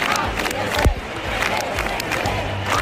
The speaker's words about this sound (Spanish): Al grito de «El presidente al Picassent», los manifestantes han vuelto a pedir la dimisión de Carlos Mazón por su gestión en la tarde de la Dana, que dejó 229 muertos.